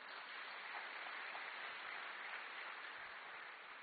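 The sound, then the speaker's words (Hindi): An audience claps steadily for a few seconds, many hands blending into a dense, even wash of applause with no voices over it. “भाई ताली तो बजाओ जरा।”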